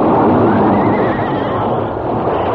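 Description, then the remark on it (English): A stagecoach's lead horse, wounded by outlaws' bullets, whinnies loudly as it falls, a long, wavering cry, its pitch quavering up and down over a dense rumbling background, with no voices. “Bullets wounded the fourth guard and one of the lead horses on the coach. As the wounded animal fell, the other horses piled up, and the stagecoach careening turned over.”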